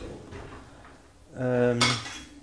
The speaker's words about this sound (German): Und währenddessen ich laber, kann ich ja eben noch die Spülmaschine ausräumen.